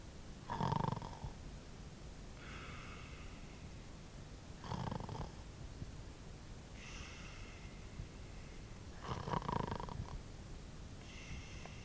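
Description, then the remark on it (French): Regular snoring coming from a bedroom: three rough snores spaced about four seconds apart, each followed by a softer, whistling exhale. Fairly quiet and steady, with no talking. “Un ronflement régulier provenait de la chambre de Tante Polly.”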